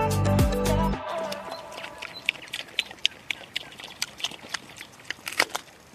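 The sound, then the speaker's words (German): Pigs munching apples on the meadow where they live: a loud, low grunt opens, then comes a steady series of sharp, irregular crunching bites, with faint snuffling and smacking between them. “Wir hören, wie sie gerade Äpfel fressen auf der Wiese, auf der sie leben.”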